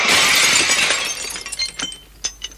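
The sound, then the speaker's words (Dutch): A loud crash of window glass shattering, followed by scattered tinkling pieces falling and clinking for a couple of seconds as the sound dies away. “Oh, dat was het raam. Kijk uit voor de scherven, Dopie.”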